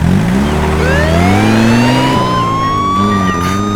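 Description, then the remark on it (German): A car engine revs loudly and pulls away while a siren wails with rising and falling pitch, steady throughout, with no one speaking. “Weg sind sie. Und natürlich mit Sirene.”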